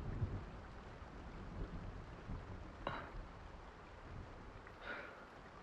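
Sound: rain with rolling thunder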